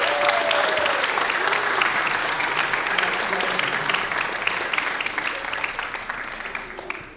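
A church audience applauds steadily for several seconds to welcome a child into the church family, a dense, even wash of many hands clapping at once that holds its level before tapering off slightly at the end, with a few faint voices mixed in.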